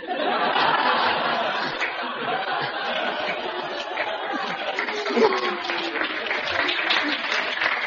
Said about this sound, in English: Oh, listen to them here. They're applauding the chutzpah, his kid.